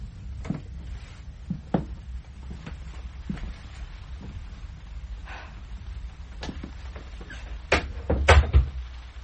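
An unlocked door is opened: a few sharp clicks and knocks from the handle and latch, then a louder cluster of creaks and thuds near the end, over a low rumble.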